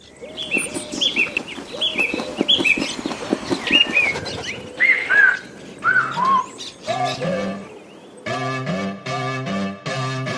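A busy flurry of bright bird chirps and tweets opens a song, the calls overlapping quickly before giving way to steady, pulsing synth-like tones. No one speaks.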